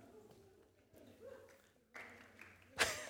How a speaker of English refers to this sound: That is a wonderful half golf clap. Well done.